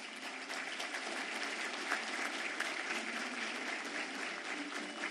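A steady, dense round of applause from many hands, a continuous bright crackle of clapping that holds at an even loudness for several seconds without any voices over it.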